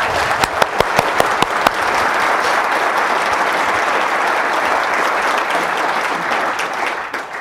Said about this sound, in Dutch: Ik zie vandaag, het was Stichting Nehemia, met een paar andere mensen, die hebben de initiatief genomen om dit te regelen. Mooi? Zullen wij hun een stevige applaus geven?